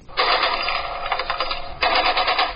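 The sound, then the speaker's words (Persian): Two long bursts of rapid automatic gunfire, loud and dense, the second starting right after a brief dip, with no talking: celebratory gunfire fired at night during a wedding celebration in the city of Sheberghan. “تیراندازی به مناسبت تجلیل از مراسم عروسی از طرف شب در شهر شبرغان تقریبا به یک کار معمول تبدیل شده.”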